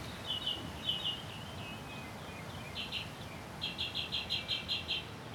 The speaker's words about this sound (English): The bird's unclean.